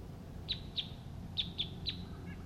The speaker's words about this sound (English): Two male wild birds are calling at this time. A fourth wild one arrives, and the decoy bird responds to the wild birds.